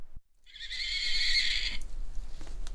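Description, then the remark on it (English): A miniature horse owned by the speaker lets out a single high, wavering whinny lasting about a second, fairly loud, followed by faint rustling and low rumbling background noise. “Yeah, that was a little mini horse we have.”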